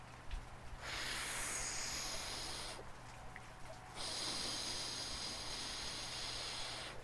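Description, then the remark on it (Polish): Someone blows steadily on dying embers in two long, breathy gusts, the second longer than the first, each a broad airy hiss over a faint low hum, with no talking. “Ognia już nie ma. Ach, gdzież tam? Podmuchaj pan trochę.”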